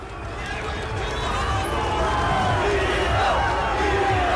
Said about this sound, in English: The crowd is getting bigger and bigger.